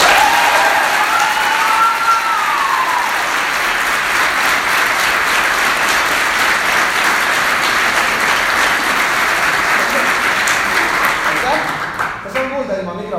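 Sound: audience applause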